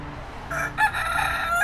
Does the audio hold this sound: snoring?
no